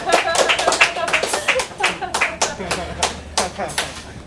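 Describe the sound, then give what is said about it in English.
An audience claps, starting as a dense patter of many hands and thinning into slower, spaced-out claps over a few seconds, with faint voices underneath. “So, can we clap now?”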